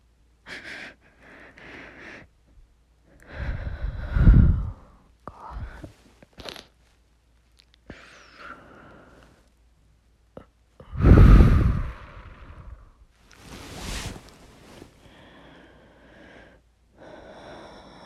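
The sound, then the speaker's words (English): Heavy, effortful breathing with ragged inhales and exhales repeating irregularly, two especially loud, rough gusts standing out among sharper snorting gasps. No talking. “I'll copy your breathing.”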